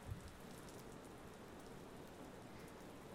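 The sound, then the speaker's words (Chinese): Soft, steady light rain patters continuously on a surface, a gentle even hiss with scattered drops and no pauses, heard alone at a quiet level. “那么一边听着雨声一边入睡吧。因为是小雨，所以当成催眠曲也是可以的。”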